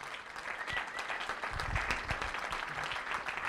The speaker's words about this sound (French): Donc, on peut les applaudir, les accueillir.